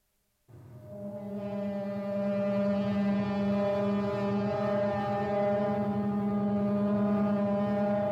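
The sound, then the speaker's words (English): A launch pad warning horn, sounded to clear the pad area just before the liftoff of a Delta rocket, blares in one long, unbroken low tone, loud and steady with a buzzy, harmonic-rich edge, sounding alone for about seven and a half seconds. “A warning horn to clear the pad area for launch is heard just prior to liftoff.”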